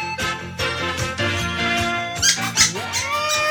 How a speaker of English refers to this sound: I've noticed that Big Fatty's making this chirping noise.